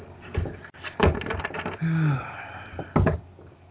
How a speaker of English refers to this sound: I'm just saying to you, okay, I'm shuffling cards. I'm going to shuffle a card for you and give it to you about the direction my relationship is heading.